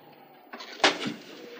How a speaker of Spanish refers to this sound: Mira la pantalla y le da un pequeño manotazo.